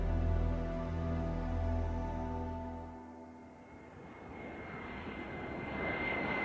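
An airplane touching down in Seattle: a steady droning engine hum gives way to a broad rushing roar as the plane rolls along the runway, loud, with no talking.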